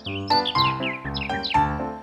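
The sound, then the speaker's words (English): A bird chirps in a quick series of bright, sweeping calls, fairly loud, repeating in short bursts for about two seconds with no talking. “The next day, Puss caught a bird.”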